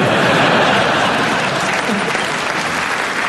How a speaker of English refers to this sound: You're clapping because you hope that's the end. Don't worry, nearly halfway through now.